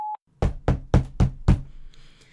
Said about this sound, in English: Come on. I've been knocking for almost 5 minutes now.